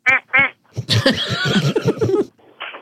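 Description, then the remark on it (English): A duck call done as loud as possible quacks: two short nasal quacks, a pause, then a long raspy run of rapid quacks, ending with one fainter quack. “No, he needs to do a loud duck okay, call.”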